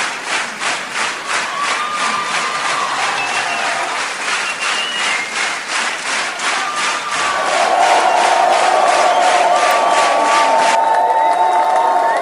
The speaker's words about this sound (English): I know you want more, Sydney. I know you want more. The more noise you make, the more chance they'll get back out here.